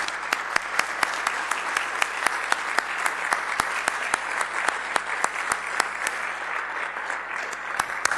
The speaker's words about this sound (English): all of those mothers, if you would stand for a moment and remain standing, we want to applaud you and we're going to be praying over you as well.